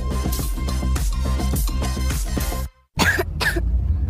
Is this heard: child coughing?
yes